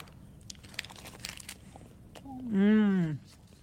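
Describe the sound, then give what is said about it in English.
Someone bites into a snack bar: a quick run of faint, crisp crunches and crinkles for about a second and a half, followed by a loud, drawn-out voiced murmur. “Let me just take a bite of something.”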